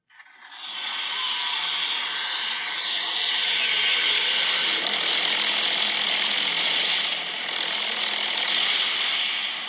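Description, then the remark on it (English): A jet-engine-looking mechanism mounted on top of an ice buggy sled roars loud and steady, a harsh hissing whine with a grinding, rattling texture that swells slightly in the middle. No one speaks. “So it's basically like a jet engine looking type mechanism that is on top of some type of ice buggy sled.”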